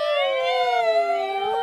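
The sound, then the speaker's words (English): A crowd of voices holds a loud, sustained wailing tone that slowly bends in pitch, imitating an ambulance siren in one continuous, steady chorus. “Ambulance, louder.”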